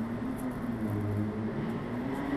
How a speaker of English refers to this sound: Oop. Oop, send in the loud motorcycle. Vroom, vroom.